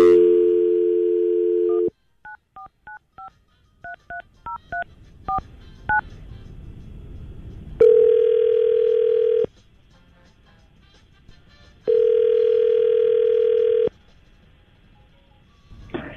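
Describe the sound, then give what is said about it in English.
A steady dial tone, then a quick run of about a dozen short keypad beeps as a phone number is dialed, followed by two long ringing tones separated by a pause, as hosts of the radio station 99.5 QIK call a woman. No voices. “Let's see if we get her on the phone.”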